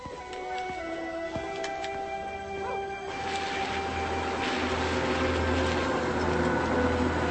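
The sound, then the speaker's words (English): A wounded Saint Bernard, someone's pet dog that has just been shot, whimpers and whines in drawn-out, tremulous tones over a steady low background hum, with no one speaking. “Took out somebody's pet. What kind of pet? Saint Bernard.”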